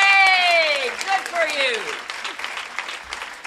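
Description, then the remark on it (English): An audience breaks into steady applause for God, with several voices whooping and shouting in long falling tones at the start before the clapping carries on alone and gradually thins. “You're going to applaud who?”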